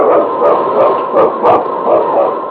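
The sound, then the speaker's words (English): King, the husky lead dog from Challenge of the Yukon, a sled dog of the North Country, barks and yips in quick, repeated bursts, loud, over a steady rushing background noise that never lets up. “Its king, swiftest and strongest lead dog of the North Country, blazing the trail for Sergeant Preston of the Northwest Mounted Police in his relentless pursuit of lawbreakers.”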